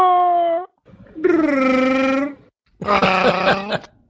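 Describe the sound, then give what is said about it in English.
A person imitates a Wookiee growl with three loud, wailing roars, each warbling in pitch and separated by brief pauses, with no other talking. “Why don't you just do a wookie growl and make me feel terrible?”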